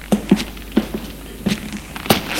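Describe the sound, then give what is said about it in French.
Steady footsteps walking at an even pace along a long metal corridor in a hotel, about six clear heel strikes with a slight hollow echo, alone with no voices. “Suivent un long couloir.”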